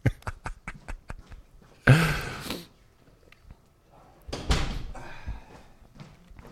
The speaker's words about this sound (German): Soll ich eben die Tür zu? Ja, mach ich mal die Tür zu.